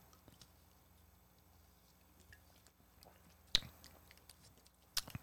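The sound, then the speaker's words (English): Someone takes a big gulp of an energy drink, soft wet mouth sounds over quiet room tone punctuated by two sharp clicks a second or so apart, with no talking. “I took a big gulp expecting that like nice monster soda tasting drink, and this is gross.”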